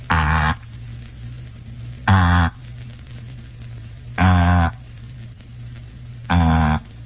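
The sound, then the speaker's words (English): A telephone ringing tone sounds four times, each buzzy, mid-pitched burst lasting about half a second and spaced evenly roughly two seconds apart, over a steady low hum. “It's the sound of a number being rung.”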